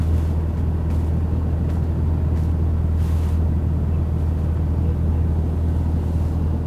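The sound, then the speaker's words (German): A steady, low engine rumble drones continuously, with a constant deep hum and faint brief higher noises over it, as a vehicle slowly reverses to park. “So, Handbremse. Motor aus. Und schon wird es ruhiger.”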